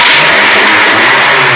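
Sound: car engine revving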